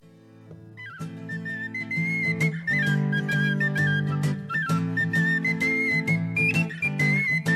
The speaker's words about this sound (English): But he sounds so Irish with his penny whistle right here on this song called Paddy Works on the Railroad.